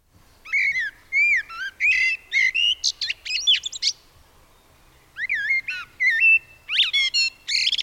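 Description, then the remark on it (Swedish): Common blackbird song, rich fluting phrases with whistled, warbling notes delivered in two bursts separated by a brief pause, clear with no talking. “Det var ju då, som jag precis sa, koltrasten.”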